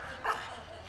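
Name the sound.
dog sneezing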